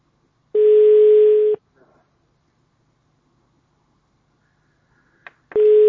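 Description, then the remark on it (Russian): A phone line rings out unanswered: a steady mid-pitched ringback tone sounds for about a second, falls silent for several seconds, then starts again, loud and without any voices. “Я вот сейчас по нему звоню.”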